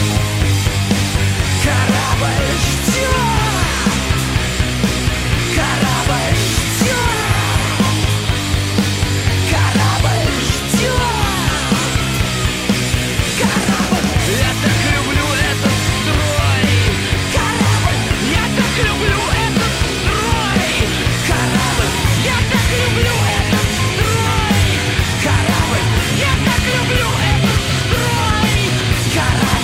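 A full-band Russian rock song plays loud and steady throughout, with driving bass, dense guitars and a sung vocal line over a constant beat.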